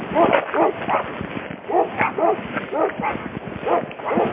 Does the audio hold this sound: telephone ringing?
no